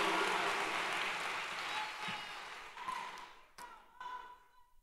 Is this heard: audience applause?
yes